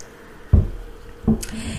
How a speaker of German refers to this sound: So, einen Schluck Wasser.